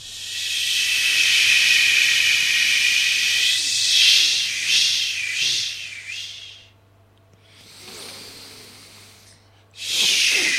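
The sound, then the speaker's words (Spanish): Loud, forceful, deliberate breathing: a long, hissing exhale, a brief pause, a softer breath, then another strong rush of air. No talking. “Está respirando simplemente.”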